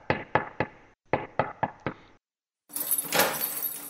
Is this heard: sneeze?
no